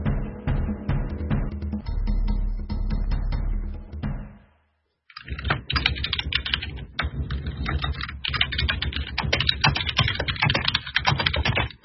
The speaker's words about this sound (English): You can hear the typing. Yeah, I know. I'm trying to get people to say stop. That's a modder hard at work, that is. Yeah. I'm just telling someone to stop talking to me since I'm on.